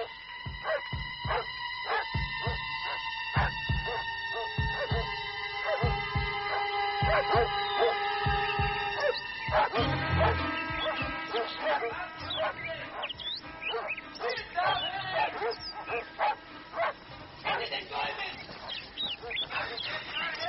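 dogs barking

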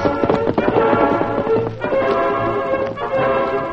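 horse hooves clip-clopping

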